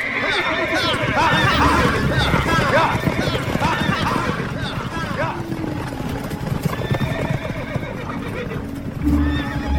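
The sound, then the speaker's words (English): Horses clip-clop steadily while one whinnies loudly, with dense hoof rhythm and a busy outdoor bed throughout, plus brief snorting near the end. “We can stop when the sun reaches high noon and water the horses.”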